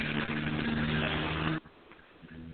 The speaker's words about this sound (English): Wow, that must have been a truck in the background.